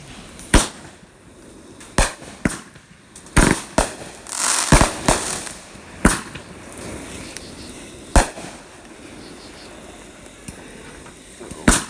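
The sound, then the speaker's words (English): Fireworks being lit and set off right in front of the listener beside a road burst in sharp, loud bangs at irregular intervals, with a dense crackling flurry partway through, echoing over a low rumbling background. “I didn't have fireworks in my drink.”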